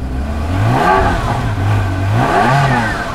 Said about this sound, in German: Wir fahren erstmal rein. Zu Befehl. Gerne fahre ich den Wagen in die Tiefgarage.